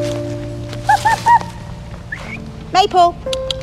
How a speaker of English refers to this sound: I'm in my happy place, Penn Wood, a lovely woodland just up the road from my home in West Berkshire.